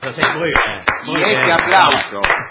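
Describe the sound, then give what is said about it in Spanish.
An audience applauds, called for by a host thanking guests on a show, in a steady, dense burst of clapping with a few sharper claps standing out, while voices carry on over it. “Y ese aplauso.”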